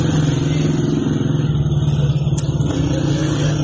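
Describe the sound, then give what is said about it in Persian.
A loud, steady rumble of motorcycle engines of dozens of special police unit riders stationed at Zendan Square by Aichi cemetery in Saqqez, Kurdistan province, Iran. A dense throbbing drone with a pulsing low hum holds for the whole stretch, with no one speaking. “در یکی از این ویدیوها ده‌ها نیروی موتوری یگان ویژه مشاهده می‌شوند که در میدان زندان منتهی به آرامستان آیچی، محل آرامگاه مهسا امینی و شماری از معترضان کشته شده در سقز مستقر هستند.”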